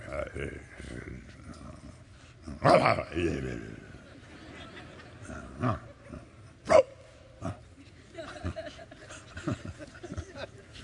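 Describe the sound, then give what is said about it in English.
A dog barks at everybody in sharp, separate bursts, a couple of loud ones standing out, over a busy outdoor hotel breakfast with people talking. “Just barking at everybody.”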